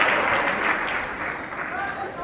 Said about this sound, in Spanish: Gloria a Dios, hermano. Eso les salió precioso y gracias por arriesgar su vida. Un aplauso fuerte, hermanos.